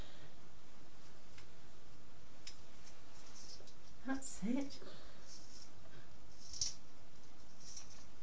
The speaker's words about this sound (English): There's a funny ticking sound. It sounds as if the pencil keeps being sharp and then breaks again.